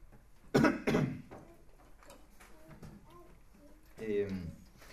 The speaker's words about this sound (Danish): Nu hostede jeg, så glemte, hvor jeg var henne.